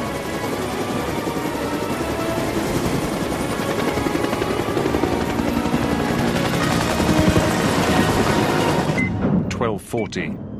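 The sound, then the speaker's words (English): A helicopter swiftly lifts off, its engine roaring loudly and rotor blades thumping in a steady rhythm, the din swelling before cutting away sharply near the end. “Henderson runs to the helicopter, which swiftly dusts off.”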